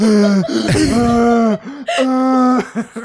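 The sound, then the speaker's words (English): A person makes loud choking and gagging sounds, strained throaty croaks and hacking coughs in two drawn-out bursts with a brief gasp between them. “I'm choking death on accident.”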